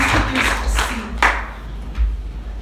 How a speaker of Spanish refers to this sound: ¿Por qué no le damos un fuerte aplauso al Señor y toma su lugar?